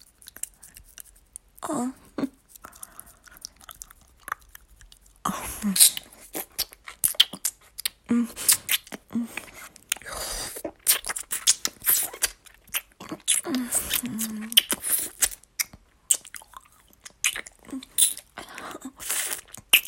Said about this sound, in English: Oh, I love licking those delicious beads of pre-cum off the head of your cock.